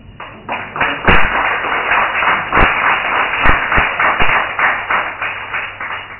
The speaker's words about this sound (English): In moments, our barman returns, rattling his bucket of ice.